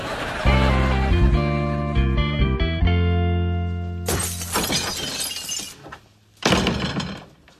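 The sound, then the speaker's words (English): Low, steady musical tones play before a loud burst of shattering window glass, its bright crash trailing into tinkling shards, then a second smaller smash of glass follows. “Boss throw his Zen garden through the window again?”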